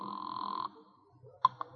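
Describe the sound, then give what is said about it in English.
A telephone rings once for a call placed to the home office, a steady buzzing burst lasting under a second, then stops; after a short quiet pause come two sharp clicks. No one speaks. “phone call to the home office.”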